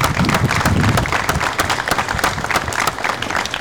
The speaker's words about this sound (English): And I ask just a big round of applause for everybody in the department.